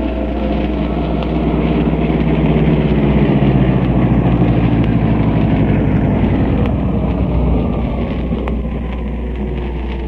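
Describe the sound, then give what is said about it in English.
A stolen car's engine drones steadily and loudly throughout, with a rough, rumbling tone and rushing air noise as the thieves drive it away. No one speaks. “Tell them someone's stolen the car.”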